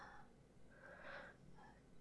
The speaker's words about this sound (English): I'm just my head hurts. Yeah, I guess I am breathing a little heavy. I am, maybe.